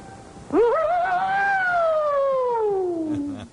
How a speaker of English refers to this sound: We are now privileged to witness in demonstration of Japan's finest air raid siren.